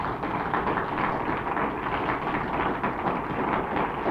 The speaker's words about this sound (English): Claps are probably in order.